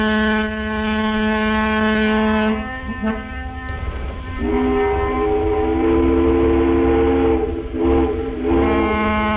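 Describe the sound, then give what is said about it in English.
Ferry boat whistles blow long, loud, sustained blasts that overlap and shift pitch several times, sounding continuously through the whole stretch over a low engine rumble, with no voices. “Thornley decided to collect each and every ferry signal in all of their varied glory.”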